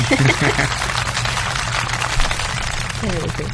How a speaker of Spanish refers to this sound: Ahí van los aplausos, como debe ser. Bueno, entre todos. Los aplausos primero.